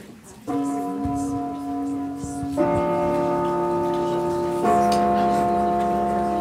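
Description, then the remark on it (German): An old cinema gong, a device about 100 years old with three keys that are each pressed by hand, rings three clear, sustained tones one after another, each a different pitch and struck about two seconds apart, their ringing overlapping and lingering. “Der Gong im Casablanca ist auch so ein kinonostalgisches Detail. Es ist ein etwa 100 Jahre altes Gerät mit drei Tasten, bei dem man per Hand jede einzelne Taste drücken muss.”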